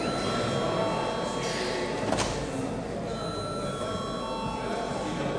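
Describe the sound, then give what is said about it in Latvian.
A parliamentary voting bell rings continuously in a steady electric tone, holding for several seconds at moderate loudness over a low murmur, in the Latvian Saeima before deputies vote on a bill in its first reading. “Lūdzu zvanu.”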